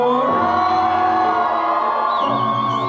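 A large concert crowd in Chicago screams and cheers nonstop, a loud, dense wall of high-pitched shrieks and whoops that stays steady throughout, with no one speaking over it.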